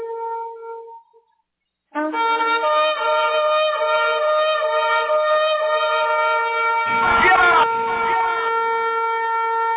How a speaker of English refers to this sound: Here we are at the Hoshiana, Hosanna, Rabba, the great Hoshiana, the great Hosanna here in the season, here in the feast, here in the festival. So let's blow the horn, sound the alarm.